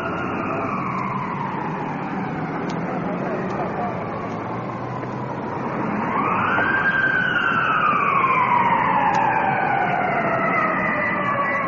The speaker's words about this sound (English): Ambulance rolling in. Off in the distance, the opposite direction.